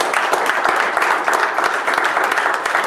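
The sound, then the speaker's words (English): A church audience applauds the Lord steadily, many hands clapping at once in a dense, sustained wash of claps at a fairly loud level without pause. “All right, do the Lord a hand of applause.”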